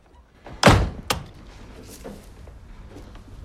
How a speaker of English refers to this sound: A shocked Peter closes his front door.